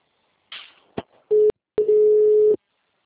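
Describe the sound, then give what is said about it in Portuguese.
A telephone line put on hold by someone during a group call: after a brief hiss and a couple of sharp clicks, a steady mid-pitched electronic tone sounds loudly twice, a short beep and then a longer one. “É só o meu que está chamando alguém aí? É, alguém colocou na espera.”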